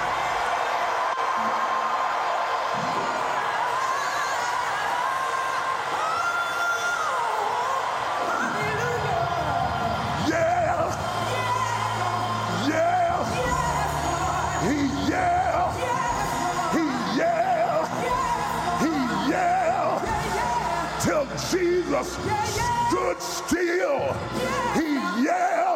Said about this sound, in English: If you're gonna instigate a yell at the top of your lungs.